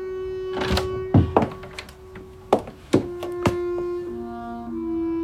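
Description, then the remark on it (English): A dressing room door is handled: its knob rattles as it is turned, then several dull thunks and knocks follow over about five seconds, against a steady low electrical hum, with no one speaking. “All I have to do is turn the knob on the dressing room door and go on out.”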